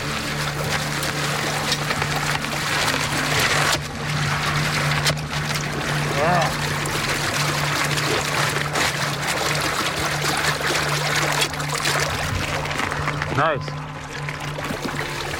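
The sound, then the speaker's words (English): Water surges and gurgles steadily up into a hole being chopped through thick ice, filling the hole, a continuous rush with trickling and pouring textures, while a low steady hum runs underneath and a person briefly says a few words. “As soon as I hit water, the hole filled up, but I still have to make it the same diameter all the way to the bottom.”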